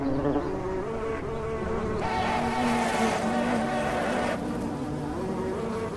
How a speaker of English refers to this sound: Are those bees doing a synchronized dance to classical music? This is madness, stop!